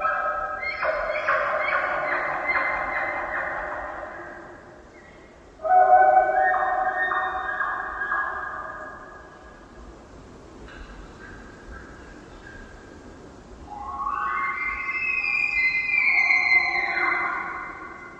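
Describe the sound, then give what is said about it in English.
A bull elk bugles its rutting call from beyond the conifers: long, high, squealing calls that rise in pitch, rich with harmonics, in three loud drawn-out bursts with brief pauses between, ending with a series of grunts. No talking. “An elk bugle. This distinct rutting call gets higher and ends with a series of grunts.”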